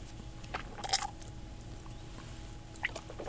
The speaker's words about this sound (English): And here I'm going to do a little double sip. This is the first one of the day. I'm going to take a quick sip and spit, and then I'm going to let the other one linger in my mouth a little bit before I spit it out.